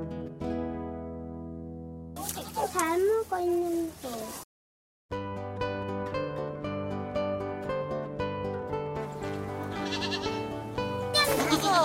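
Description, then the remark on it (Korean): Many white goats bleat in a burst of wavering, overlapping cries early on, set against a steady background of sustained musical tones, with another faint bleat near the end. “하얀 염소 저기 많이 있어요.”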